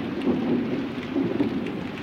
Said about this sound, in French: Les nuages s'amoncellent bientôt dans le ciel de Champignac. Le vent enfle sa voix, un grondement lointain.